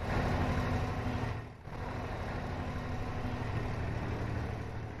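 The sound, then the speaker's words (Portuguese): A tram (elétrico) running in Lisbon, heard from on board: a steady, loud low rumble with a humming motor drone, briefly dipping once before carrying on evenly. No one speaks. “E é a bordo deste elétrico que terminamos a emissão de hoje do Portugal em Direto.”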